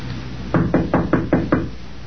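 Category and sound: impact, knocking on a door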